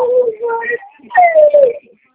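A baby cries in two wailing bursts, the second one drawn out and sliding downward in pitch, clear with a short pause between them.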